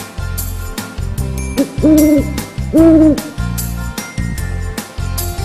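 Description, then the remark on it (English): Two drawn-out owl hoots, each about half a second, rise loudly above a steady, rhythmic low backing that pulses throughout. “That's an owl!”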